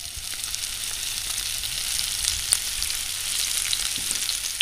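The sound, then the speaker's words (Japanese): Sardines seasoned with salt and pepper and dusted with flour frying in hot olive oil in a frying pan, a steady hissing sizzle with scattered sharp pops and crackles throughout, fairly even in loudness, with no voices. “フライパンにオリーブオイルを熱してイワシを入れます。”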